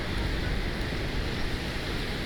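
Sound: ocean waves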